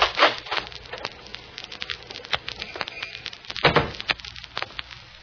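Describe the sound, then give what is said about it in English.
A glass lobby door is opened, with a few sharp clicks and knocks from the handle and latch, a louder thump of the door swinging, and light scuffing and rattling around it. “So when I open the lobby door, look at the reflection in the glass.”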